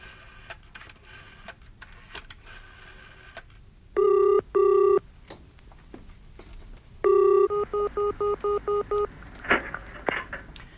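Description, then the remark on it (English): A telephone in a public call box at a pub is dialed with scattered clicks, then two loud, steady tones sound, followed by a ring and a quick run of short, evenly spaced ringing pulses. No one speaks. “Where can I make a phone call?”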